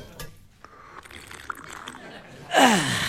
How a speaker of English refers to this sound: Right. Well, I think I might pour myself a quick swift one myself while I've got the time.